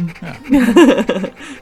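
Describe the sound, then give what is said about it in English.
Quick, excited panting breaths run together with voiced, whiny rises in pitch, fairly loud, swelling in the middle and then easing off toward the end. “And then he starts like hopping like a raven around, panting in excitement.”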